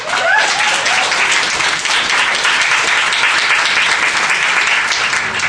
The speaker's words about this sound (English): If we can give a round of applause to our 25 amazing fellows.